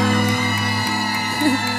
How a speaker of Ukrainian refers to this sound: Тож я хочу, щоб ви гучними оплесками зустріли надзвичайно талановитого